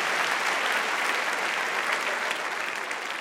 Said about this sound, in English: I'd like to give a round of applause to all of them.